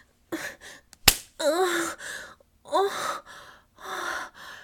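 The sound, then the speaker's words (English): One sharp slap of a hand striking a woman's genitals rings out once, surrounded by breathy gasps and moaning vocal sounds from a voice. “Oh, master, you know exactly how to slap my pussy.”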